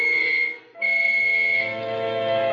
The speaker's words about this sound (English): I waited for the whistles to signal all clear.